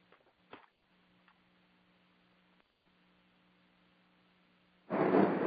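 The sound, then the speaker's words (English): Thunder rumbles in suddenly and loudly after several seconds of near silence with a faint steady hum and a few soft clicks, a dense roaring burst that fills the final half second. “Oh, thunder.”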